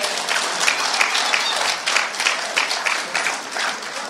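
A crowd applauds steadily, many hands clapping in a dense, continuous patter that stays fairly loud and even for the whole stretch, with no voices standing out.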